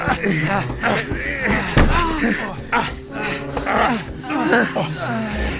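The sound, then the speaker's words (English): Tables shoved against a door in a bar, with one solid bang and some scraping knocks, under the hurried, overlapping talk of several voices. “Quick, get these tables up against the door.”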